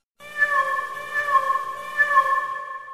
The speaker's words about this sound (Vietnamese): Khi tới gần một cái hố còn đang âm ỉ, chúng tôi nghe thấy tiếng kêu thương tâm của một chú mèo đang bị chôn vùi giữa đống lửa.